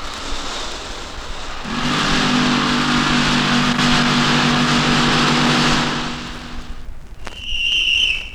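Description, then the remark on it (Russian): A rock drilling rig starts up in a tunnel being driven through a mountain at Nurek, with a loud, steady mechanical roar and drone, runs for several seconds, then cuts out, followed by a brief high-pitched whistle. “Начинай бурить!”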